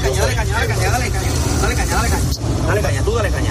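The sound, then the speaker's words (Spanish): A fire truck's heavy engine roars steadily as it accelerates hard through the flames of a fire in Alicante, Spain, surrounded by fire. A constant loud rumble, with several people talking and shouting urgently over it. “los miembros de la UME, que ayer en el incendio de Alicante tuvieron que atravesar las llamas con el camión, acelerando a todo lo que daba al verse totalmente rodeados por las llamas.”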